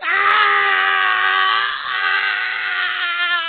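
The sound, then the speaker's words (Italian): A man lets out a long, loud, anguished scream as fire burns his flesh, holding for several seconds with a raw, strained tone, alone with no other sounds around it. “Un secondo urlo, ancora più straziante del primo, gli uscì dalle labbra.”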